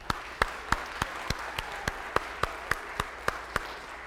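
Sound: audience applause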